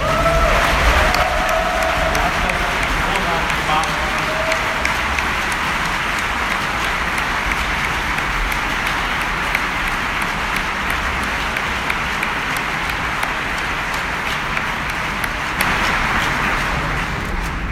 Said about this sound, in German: Ich bitte euch auch um einen großen Applaus für unser Tagungspräsidium.